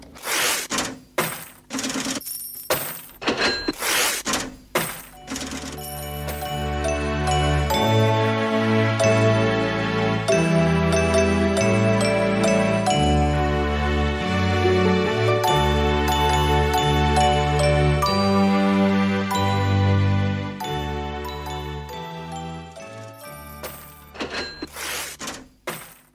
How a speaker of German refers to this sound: Und dabei dachte ich damals immer schon an das Klingen der Glocke an der Registrierkasse.